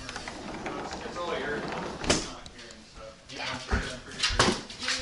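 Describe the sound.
A dog whimpers, breaking into a few short, sharp yips toward the end, with a person's voice and room noise in the background.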